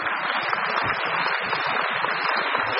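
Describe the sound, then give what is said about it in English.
Steady audience applause fills the whole stretch, a dense, even wash of many hands clapping at a constant level with no voices rising above it. “I hope the applause means that you understood that that has something to do with the second law of thermodynamics.”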